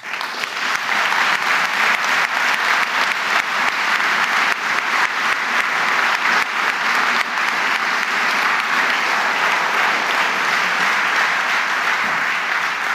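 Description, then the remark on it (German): A large audience applauds steadily, a dense wash of many hands clapping at once, loud and sustained for the whole stretch without any talking. “Und wer sich für Fußball interessiert, wir haben es am Applaus schon gemerkt, das sind einige hier”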